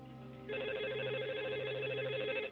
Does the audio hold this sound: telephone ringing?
yes